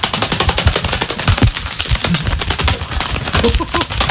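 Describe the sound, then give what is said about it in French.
Gloves slapped together in a rapid, continuous flutter imitate the wingbeats of a big bird, like a pigeon, taking off. The dense, crackling flapping runs steadily for about four seconds, with no voices. “Prends un gant et en fait, on va imiter un oiseau qui s'envole. Donc, il suffit de prendre des gants et de les faire claquer.”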